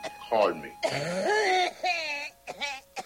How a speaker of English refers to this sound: Need any help with the coughing?